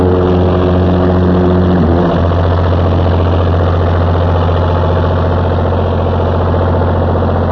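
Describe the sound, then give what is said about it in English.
Loud, steady exhaust from one of two running diesel engines, recorded in the engine room, a deep continuous rumble with a rhythmic throb; the pitch shifts slightly near the start before settling into an even idle. “This is your head now, is exhaust from one of the diesels.”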